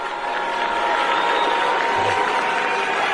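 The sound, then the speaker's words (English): A crowd at an FDNY event booing New York Attorney General Letitia James loudly and continuously, a dense wash of many voices jeering together at steady volume for the whole stretch, with no single speaker standing out. “And she gets booed at an FDNY event.”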